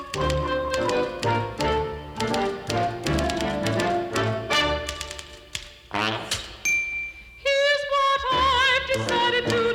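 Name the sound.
typewriter typing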